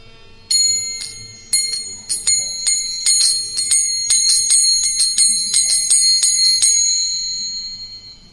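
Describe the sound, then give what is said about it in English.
Small ankle bells on anklets tinkle sweetly and brightly, repeating in an uneven, shaking rhythm, clear, with overlapping high chimes that ring on and fade out near the end. “She was dressed in blue garments and decorated with anklets and ankle bells that tinkled sweetly.”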